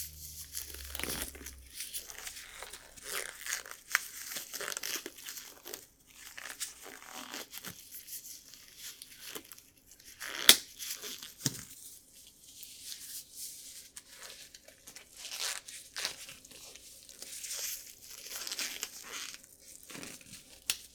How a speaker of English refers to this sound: Hear that? That's coming from the gloves. Let me really clench my fists a little. I just clench them and little air pockets just burst out of the rubber, making that soft.